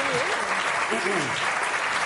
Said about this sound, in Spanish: Un aplauso para la gente.